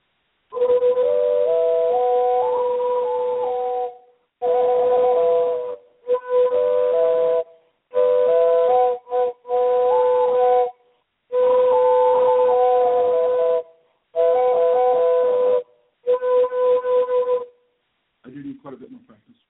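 A six-hole pipe sounds a steady low drone while a higher melody line steps up and down above it, played in about eight short phrases separated by brief pauses.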